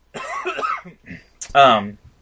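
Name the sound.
cough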